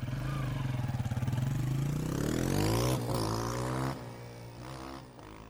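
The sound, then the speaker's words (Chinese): A motorcycle engine revs up loudly, its pitch climbing steadily over a few seconds before settling into a steady, throaty idle with a slight drop near the end. “随即上了他的摩托车。”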